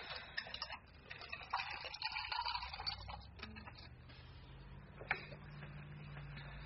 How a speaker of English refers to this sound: Why can't they make quiet ice cubes?